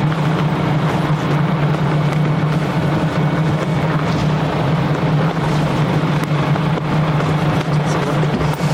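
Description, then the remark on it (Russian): A bus engine runs steadily and loudly, with a deep constant hum and rumbling drone that holds without a break for the whole stretch. “Пойдемте в автобус. Автобус.”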